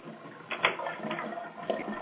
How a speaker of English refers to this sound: Is somebody watching dishes? No, I am not. Flushing the toilet or something? No, actually. Draining the tub? I'm actually trying to put the stopper back in the tub because my baby in the bathtub